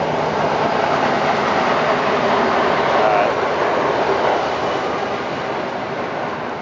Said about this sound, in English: You wait in the parking lot, wait for the train to go past. There's another train.